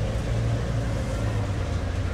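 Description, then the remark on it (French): City traffic noise in Tokyo: a steady, continuous low rumble of engines with a broad hiss on top, fairly loud and unchanging throughout, with no voices. “Le bruit de la circulation couvrait le son de sa radio connectée à une chaîne nostalgique des années 2000”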